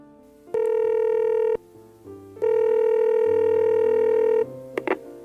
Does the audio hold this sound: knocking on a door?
no